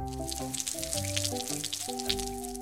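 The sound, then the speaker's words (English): Water trickles and drips onto soil and seeds in a pot, a steady patter of small splashes running throughout, with a gentle stepping melody playing underneath. “Put the soil and the seeds into the pot. Water them.”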